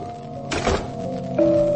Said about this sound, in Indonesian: Aku dengar pintu tertutup.